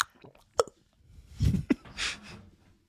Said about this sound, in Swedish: Let me drink some of my beverage.